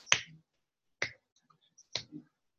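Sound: finger snap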